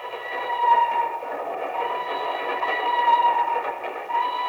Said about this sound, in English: The time near midnight. The place, Nigeria, West Africa. Two men stand on the swaying observation platform of a train which winds its way across a yawning chasm between two mountains.